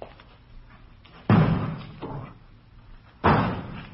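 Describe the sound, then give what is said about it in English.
Vegetables thrown against a store's front window smack in dull, heavy thuds: two loud impacts about two seconds apart, with a softer knock between them. No one speaks. “They're throwing vegetables at that front window.”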